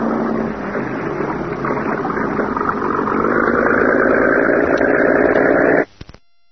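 The engine of a cabin cruiser motorboat, backed out of a boathouse and heading down a river toward the bay, runs in a steady, throaty drone, its pitch edging slightly higher partway through, before cutting off abruptly near the end. No voices are heard.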